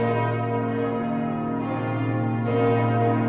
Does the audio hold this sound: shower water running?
no